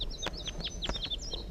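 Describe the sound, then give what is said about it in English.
Crossbill calls ring out on a hill as a quick series of sharp, high chips, several birds overlapping in an irregular rhythm over a low background rumble, with no talking. “So recording, I'm on my way down the hill and I've met up with crossbills, perhaps the same birds as before.”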